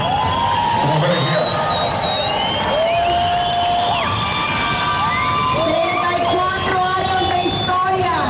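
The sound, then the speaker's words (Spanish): A large crowd of symphonic metal fans at a rock festival cheers and shouts continuously after a band finishes its performance on the Bio stage, with many overlapping voices rising in long sustained yells and whoops, loud and dense throughout. “Esos gritos que ustedes oyen ahí al final son los fanáticos del metal sinfónico que se acaba de presentar con … en el escenario Bio”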